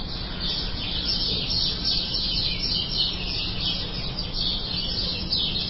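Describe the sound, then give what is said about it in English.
Small birds chirp and tweet steadily in a yard, a dense, continuous chorus of high calls over a low background hum, with no one speaking. “Birds like that yard.”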